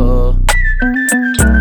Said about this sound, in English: Ayy, blow the whistle like a kettle.